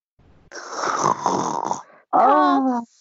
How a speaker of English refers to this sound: I think I can gauge it from the fact that you're literally snoring down the phone as I bring up this topic.